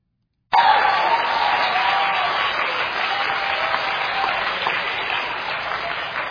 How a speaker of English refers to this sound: Now show them the third picture. I mean, they're clapping, and I'm like, this is a bunch of witches.